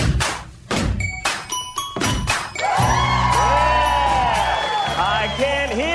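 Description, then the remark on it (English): A few heavy thumps with a light jingle open, then a loud crowd erupts into sustained cheering and rising whoops that carry on to the end. “Not true, of course, but cheer louder.”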